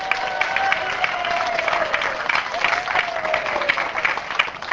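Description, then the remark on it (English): A group of Elizabeth Haddon third graders cheers and claps for themselves in a steady, dense burst lasting the whole few seconds, with one high sustained shout drifting through the noise. “Can you cheer for yourselves, third graders?”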